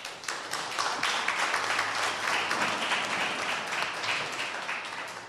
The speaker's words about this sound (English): How many Democrats in this room just clap your hands?